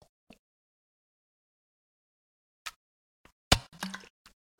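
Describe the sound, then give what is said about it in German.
Quiet sipping and swallowing of water with small wet clicks and a gulp, separated by short silences, with no talking. “So, und jetzt trinke ich darauf erstmal einen Schluck Wässerchen.”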